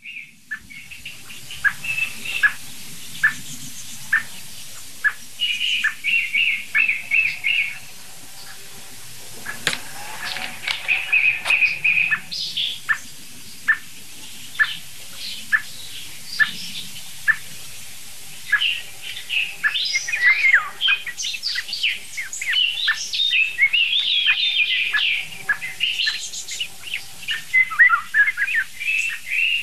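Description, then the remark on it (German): A song thrush sings continuously, repeating bright whistled phrases and sharp chirps in quick bursts, clear, with no one talking over it. “Hört euch diese merkwürdige Singdrossel an.”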